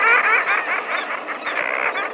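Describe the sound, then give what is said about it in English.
A dense chorus of common murres calling from a crowded nesting colony on narrow ledges high on the steep face of a sea cliff, many harsh, raucous, laughing voices overlapping continuously and loudly above crashing ocean waves, with no pauses and no speech. “The voices belong to birds, to a nesting colony of common murres, standing on narrow ledges high on the steep face of a sea cliff.”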